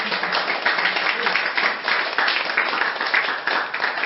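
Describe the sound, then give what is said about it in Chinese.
An audience claps steadily for about four seconds, a dense, even patter of many hands at a fairly loud, constant level with no voices breaking through. “阿们，你不要鼓掌。”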